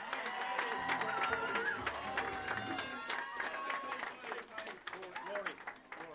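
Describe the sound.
Steady applause from an audience, dense clapping that carries on for several seconds, with voices and some cheering mixed in and a slight thinning toward the end.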